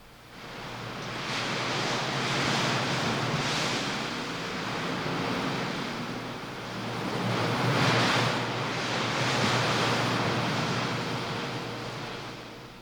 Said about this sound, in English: You know, there's an updraft all the time coming up out of the heat down there at the bottom, and that makes for a constant wind that whips at the scrubby pine trees on the canyon edge. Just listen.